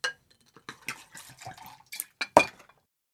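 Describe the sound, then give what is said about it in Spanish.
Clinks and clatters of plates and cutlery as waiters and servants set the last plates on two long dinner tables in a large dining hall, a quick irregular series of short sharp knocks with one louder clank near the end, otherwise quiet. “Camareros y sirvientes van poniendo los últimos platos.”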